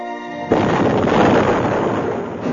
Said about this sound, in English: An explosion rocked them from the starboard side, but most of the Kessel fighters concentrated their firepower on the much larger threat of Dala's Imperial fleet.